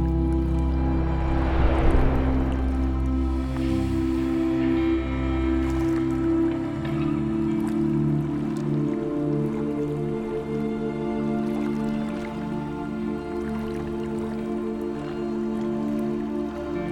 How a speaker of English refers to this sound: You lie back on the riverbank and close your eyes. You hear the water rushing and feel its calm magic within you.